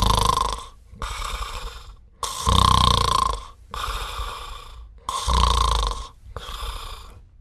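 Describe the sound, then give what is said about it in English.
A person simulates snoring, the soft palate relaxing and flapping, making six rough, fluttering snore sounds in a steady rhythm with brief pauses between them, fairly loud. “Another way to feel your soft palate is to simulate snoring.”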